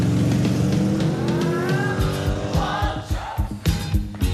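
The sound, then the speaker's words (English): A Trans Am car's engine revs and pulls away, its loud, throaty roar rising in pitch as it accelerates, followed by a few uneven rumbling surges. No one speaks. “Jenna smiles as the Trans Am pulls away and the three boys walk up to the front door.”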